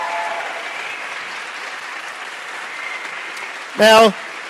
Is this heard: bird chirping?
no